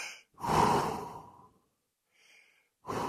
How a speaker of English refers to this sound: Relax. You're about to go in. I know now. Just breathing.